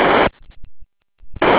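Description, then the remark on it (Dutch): Loud bursts of harsh static hiss on an amateur radio transmission open and close the moment, with a quieter gap between holding faint, garbled fragments like a weak transmission breaking through. “Komt er goed boven de ruis uit.”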